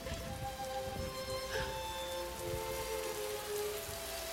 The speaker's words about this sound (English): A steady rain begins to fall.